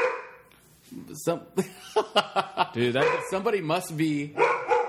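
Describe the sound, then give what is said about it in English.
A female dog barks in a quick series of sharp, loud yaps, the barks coming in an uneven rhythm and blending into whiny, drawn-out vocal sounds toward the end. “Somebody must be at the door.”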